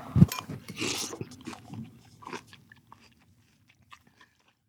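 Loud chewing of a big spoonful of corn, wet crunching bites that are dense at first and then thin out into a few soft, scattered chews.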